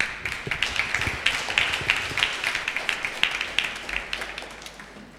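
Audience applause: a dense, steady patter of many hands clapping at once, sharp and busy, gradually thinning and growing softer toward the end. No voices are heard.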